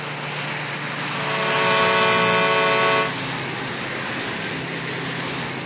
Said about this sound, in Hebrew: ופתאום שמע שמעון נהמת מנוע של משאית מתקרבת.